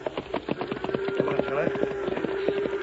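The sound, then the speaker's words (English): Horse hooves clip-clop uphill at night in a quick, steady rhythm, the hard knocks running continuously over a faint sustained hum. “Come on, horse. Up the hill.”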